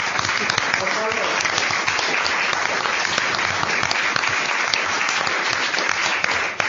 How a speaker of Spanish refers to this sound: Es darle un aplauso a ellos y a todos los cuidadores de España, que son los grandes héroes del Alzheimer.